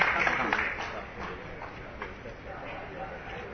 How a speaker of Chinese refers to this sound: 好，好，再一次用热烈的掌声，谢谢我们的台中市长候选人